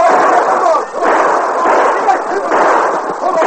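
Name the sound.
gunshots fired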